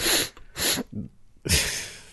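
Three sharp, breathy sniffs close to the microphone, the first two quick in succession, then a short pause before a longer, louder inhale. No speech.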